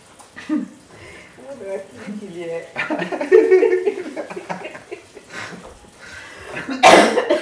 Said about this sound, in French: Oui, toussez un bon coup.